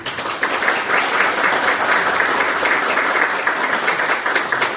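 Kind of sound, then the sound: crowd, audience applause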